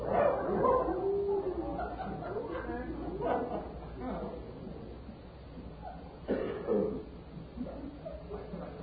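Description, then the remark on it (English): A human voice imitates a barking dog, producing repeated bow-wows and yips with some whimpering sounds, fairly loud, mixed with other vocal noises throughout. “Fully 10% of the recording is taken up with grunts, moans, yicks, and the imitation of animal sounds, of which the most often repeated is that of a barking dog.”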